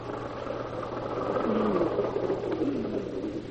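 A car stopping, its engine then idling with a steady low hum and a faint whirring rumble, swelling slightly midway before settling back to an even drone. No voices.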